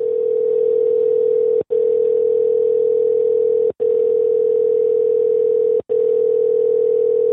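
A steady, loud telephone ringing tone drones on as a phone call goes unanswered, broken by three very brief dropouts about two seconds apart. No voices are heard.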